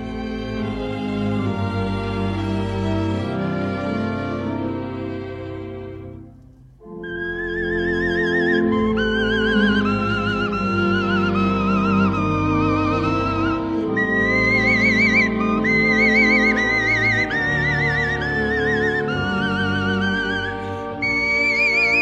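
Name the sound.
whistled imitation of birdsong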